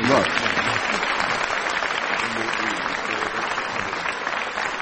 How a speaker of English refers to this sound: Yeah. I think you deserve a round of applause for guessing Turgenev.